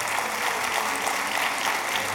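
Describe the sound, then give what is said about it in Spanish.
A crowd claps steadily and densely, applauding the love and mercy of God during a sermon, a continuous wash of many hands applauding together at even loudness, with no voices rising above it. “Vamos a darle un aplauso al amor y la misericordia de Dios.”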